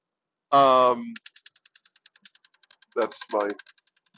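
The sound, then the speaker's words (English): A steady, rapid rattling of a 2010 car with almost 220,000 miles on it while driving, something stuck in its ducting system; regular metallic clicks tick along throughout, interrupted by three short, loud, voice-like tonal bursts. “If you hear that rattling, that's the fact that this car is from 2010 and has got almost 220,000 miles on it.”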